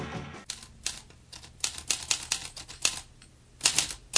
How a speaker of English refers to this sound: Remember when books were written on typewriters?